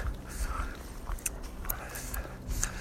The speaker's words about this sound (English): I am on a hike right now. Not sure if you could tell. I'll be hearing my feet crunching on the ground. Maybe some birds chirping in the background. Distant plains, a little bit of wind. I am in Bass River State Forest right now